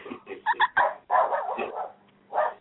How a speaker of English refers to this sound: See, even the dog's excited.